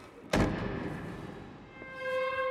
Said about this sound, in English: She steps toward a brown wood door, slowly pressing her ear to it. It drifts open. She peers through the doorway. Craning her neck, she peeks around the door and down a long, dimly lit hall. She steps out, pushing the door shut.